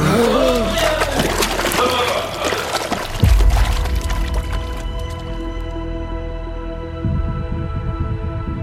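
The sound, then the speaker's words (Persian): Sloshing and pouring water as characters hiding by a beach restaurant go underwater holding their breath, then a deep muffled plunge partway through, after which everything turns dull and submerged with a steady low rumble and faint gurgling. “با اشاره من از آب میایم بیرون و به سمت رستوران سینه خیس میریم.”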